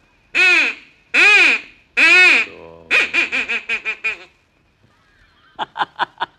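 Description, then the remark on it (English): A duck call is blown as practice, sounding a duck's mating call in loud, nasal quacks: three long drawn-out honks, then a fast run of shorter quacks, a pause, and a final quick series of clipped quacks. “I'm just practicing my duck calls.”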